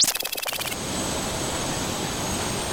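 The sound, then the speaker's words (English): A helicopter on a landing pad at a hospital in Las Vegas at 2 in the morning in the dark: its rotor chops rapidly and rhythmically for a moment, then settles into a steady, loud roaring whoosh of engine and wind noise with no voices. “The wind from the propellers blew her hair as she made her way across the landing pad in the dark.”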